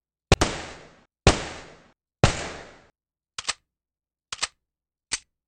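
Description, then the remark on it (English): Three loud gunshots ring out about a second apart, each with a short echoing tail, followed by three quicker, sharper cracks. No one speaks. “Those gunshots mean it's time again to talk about an ammunition company.”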